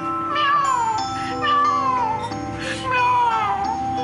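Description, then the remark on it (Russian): A cat meows three times in a row, each call long and drawn out with a pitch that slides downward, loud with short pauses between. “Бедный кот. Ты говоришь, что профессор не понимает тебя.”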